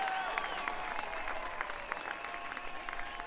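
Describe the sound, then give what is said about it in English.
Steady applause from a concert audience for the band's guitarist as he is introduced, a dense wash of many hands clapping at a constant, fairly loud level throughout, with faint whistles or cheers threading through it. “Come on, let's give him a big round of applause.”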